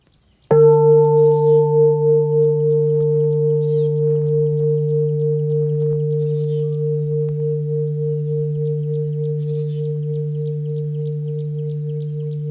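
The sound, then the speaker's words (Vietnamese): A single deep meditation bell is struck once, then its low, rich tone hums on with a slow wavering shimmer, fading only slightly, while faint high bird chirps flicker now and then. “Lắng lòng nghe tiếng chuông huyền diệu quay về nhất tâm.”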